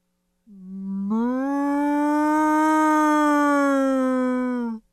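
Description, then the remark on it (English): A person imitates a cow's moo with a single long, low, steady voiced tone lasting about four seconds, starting with a short rise and fading off abruptly at the end. “Cow. All right, let me hear your cow moo.”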